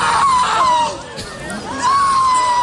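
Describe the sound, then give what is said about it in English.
A man being escorted out of a concert lets out long, loud, anguished screams of "no" after learning the singer wasn't performing, two drawn-out wails with a brief dip between, over the steady roar and chatter of a large crowd. “Listen to this man scream.”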